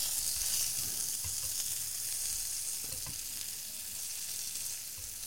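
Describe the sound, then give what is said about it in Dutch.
A steady sizzle of a hamburger, still raw inside, frying in a pan, a dense hiss of crackling fat with occasional small pops, continuous throughout with no one speaking. “Dus zou dit vervelend zijn voor luisteraars dat ze dit horen sissen?”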